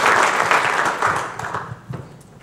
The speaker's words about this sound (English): Thank you. Give him an applause for helping our process. Thank you.